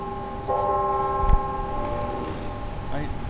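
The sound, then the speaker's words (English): The clock tower bell of NIU, a university about an hour west of Chicago, chimes outdoors at the campus garden, a single struck tone ringing out with a long, shimmering decay over steady background ambience, with faint voices. “He shows off the free-to-pick gardens as the university's clock tower chimes.”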